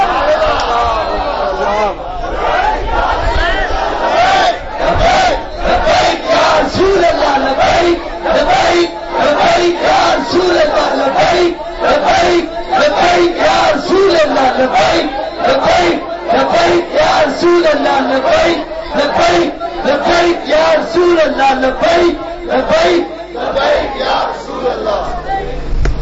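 A large crowd at a rally in Lahore chants loudly and continuously in rhythmic bursts, many voices shouting slogans together in a steady, pulsing cadence that fills the whole stretch without pause.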